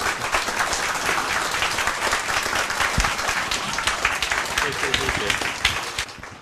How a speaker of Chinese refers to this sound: 然后现在我们就热烈掌声欢迎